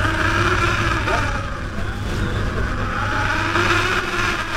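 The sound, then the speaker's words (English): The engine of a working lobster boat drones steadily and loudly, a constant low rumble with a whirring hum that holds for the whole stretch without pausing or changing pace. “As soon as the boat comes up to its first buoy attached to a line of traps, the crew swings into action.”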